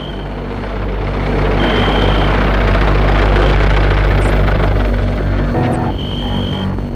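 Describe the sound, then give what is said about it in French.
A chauffeur-driven car's engine rumbles steadily, its low hum swelling in the middle before easing off slightly toward the end as the car pulls away. No one speaks. “Et la voiture s'est éloignée.”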